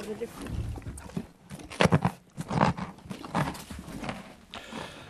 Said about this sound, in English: Sound, touch, smell and taste, because that is a carrot being eaten by a horse.